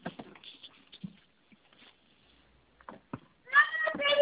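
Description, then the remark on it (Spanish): A cat lets out a loud, drawn-out meow near the end, following a quiet stretch of faint voices and scattered small noises. “ya, no molesten al gato.”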